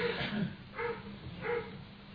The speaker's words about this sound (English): That's amazing. That's the first time I've heard the dog bark. That's the little one, right? The big one.